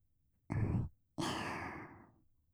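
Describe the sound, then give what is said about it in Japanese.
Two warm, breathy exhales blown at the listener's ear: a short puff, then a longer, softer breath that slowly fades out, with no talking. “耳元で、あったかーい吐息、吹きかけられるの。”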